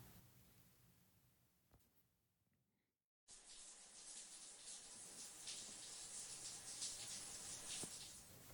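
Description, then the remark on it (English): A shower in a hotel bathroom is switched on after a few seconds of quiet room tone, releasing a steady, hissing spray of water that keeps running to the end. No one speaks. “I'm gonna take a shower.”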